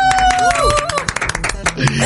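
Loud audience applause: dense, rapid clapping from many hands, with a few high whistles and cheers rising over it early on before the clapping carries on.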